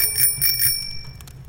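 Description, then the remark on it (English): A bicycle bell rings several times in quick succession, bright metallic dings with a lingering shimmer, clear over a low background rumble. “A bike?”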